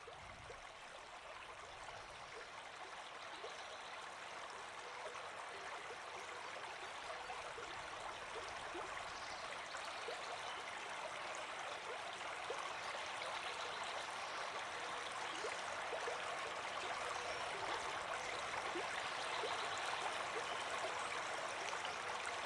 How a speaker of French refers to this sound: Le chant des oiseaux, le mouvement du ruisseau, la danse des éléments, cette musique naturelle exprime la vitalité du monde.